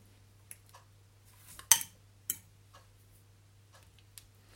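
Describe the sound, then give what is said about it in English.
A spoon stirs beans with ground dried chilies, black pepper and a little salt in a pot, making a handful of sharp, irregular clinks and taps against a steady low hum, with no one talking. “So mix that up in the beans.”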